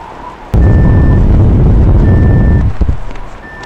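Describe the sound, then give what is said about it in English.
A steady electronic proximity alarm tone from a phone app beeps three times in slow, evenly spaced pulses, with a heavy roaring rumble like wind or an engine swelling beneath the first two and then fading away. “Well, those are the proximity alarms I set up in my app.”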